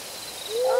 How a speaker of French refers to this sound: Et puis, ils sont en train de chanter. Je crois que c'est dans la nuit. Il n'y a que les hiboux et les chouettes.